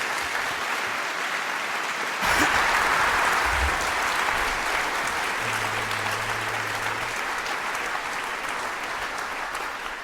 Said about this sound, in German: Einen großen Applaus an die drei und viel Spaß.